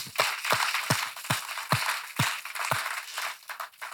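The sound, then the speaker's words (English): A crowd at an Easter service applauds in a steady wash of many hands, with sharper, rhythmic claps landing roughly twice a second on top. The clapping holds at a fairly even level, and no voices come through. “Amen, let's clap for that.”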